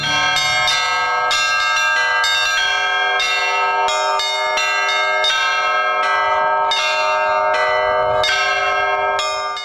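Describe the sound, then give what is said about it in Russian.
Church bells ring in a loud, continuous peal, with many overlapping strikes in quick irregular succession, their tones sustaining and blending together. No one speaks. “Будучи неотъемлемой частью христианской жизни, звон колоколов много веков назад вырос в искусство, преображающее и возвышающее душу.”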